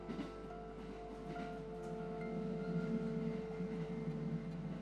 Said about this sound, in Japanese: 怖いなんてとんでもないですね。今乗っている電車にだって命を預けているわけですから。